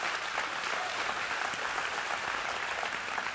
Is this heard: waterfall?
no